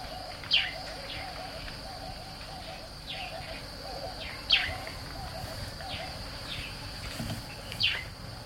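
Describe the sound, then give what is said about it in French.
African bush waking at dawn beside a small straw-hut camp: sharp bird chirps ring out every few seconds over softer calls, a low cooing murmur and a steady high insect drone, with no voices. “Je referme les yeux et j'écoute le réveil de la brousse.”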